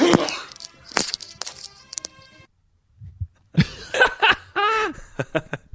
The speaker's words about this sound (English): I was holding a sneeze. Yeah, that has been added. That's a manly sneeze, though. It sounded like you got hit by Brian Urlacher. No, that is a man sneeze right there.